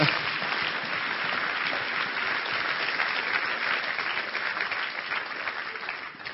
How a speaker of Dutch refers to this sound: Geef ze nog even een applaus.